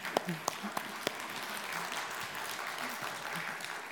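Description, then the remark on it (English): A church audience breaks into applause celebrating the church administrator's 20 years of service, a dense wash of many hands clapping steadily at moderate volume, with a few sharper individual claps standing out at the start. “Sorry, the applause was not what I was thinking was going to happen”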